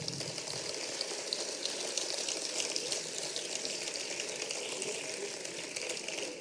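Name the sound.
audience applause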